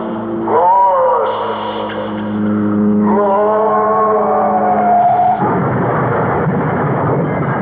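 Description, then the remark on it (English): A car's tires screech in loud, wavering squeals as it skids and plunges off Coldwater Canyon, then the sound gives way to a rough, roaring burst of noise like the vehicle crashing down. “Woman plunges to fiery death off Coldwater Canyon. Both car and driver completely destroyed by fire.”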